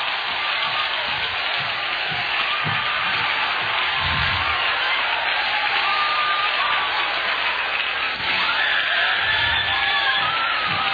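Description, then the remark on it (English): An audience claps and shouts for the Lord together in a sustained, dense roar of applause and cheering, with scattered whoops rising over the steady clapping for the full length. “Let's clap again and shout for the Lord, for he is worthy of our praise.”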